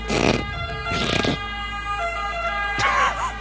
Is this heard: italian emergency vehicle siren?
yes